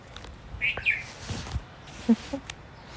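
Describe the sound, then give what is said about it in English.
A loud evening songbird sings at sunset in mist rolled in off the sea: a few short, bright high chirps, followed by a couple of lower, softer notes, with gaps between them. No voices are heard. “A loud evening songbird is with us.”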